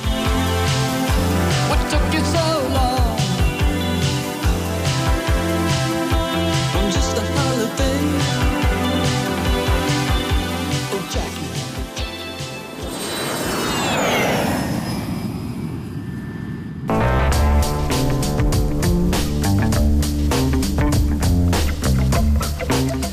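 An upbeat 1984 new wave rock song with a steady, punchy drum beat and layered synths, broken midway by a loud whooshing jet-like sweep before the full band kicks back in.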